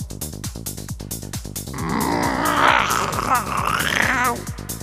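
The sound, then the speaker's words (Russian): A mechanical cat sitting on construction scaffolding lets out a drawn-out, throaty grunt in reply, lasting a couple of seconds, right by the ear and fairly loud, over a steady rhythmic pulsing in the background. “Прокряхтело над ухом в ответ.”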